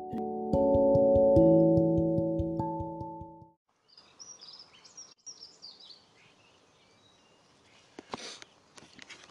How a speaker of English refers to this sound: It's a beautiful morning. Birds singing.